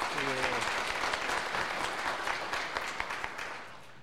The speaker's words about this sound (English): So we want to just give you a big round of applause and appreciation. Thank you so much.